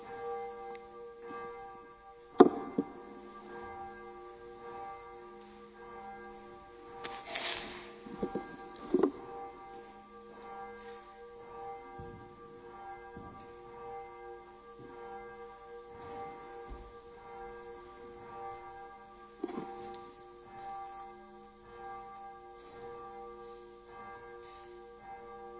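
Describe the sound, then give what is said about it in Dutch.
A church bell rings out at noon with sustained, overlapping tones, its deep humming resonance lingering throughout, with a few louder strikes standing out. No one speaks. “Goed, de kerkklok gaat af om 12 uur.”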